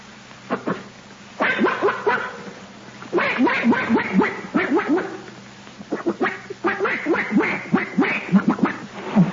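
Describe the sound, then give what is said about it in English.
A man's voice imitates a duck, letting out a long run of rapid, nasal quacks in uneven bursts, fairly loud, with short pauses between the volleys. “Would you like to hear old uncle make a noise like a duck?”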